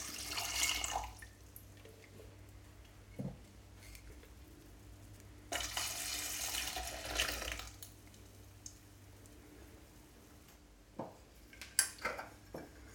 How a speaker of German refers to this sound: So, ich nehme mal 300 Gramm Sauerkirschen für den halben Liter Flüssigkeit. Dann tue ich schon mal Wasser dazu.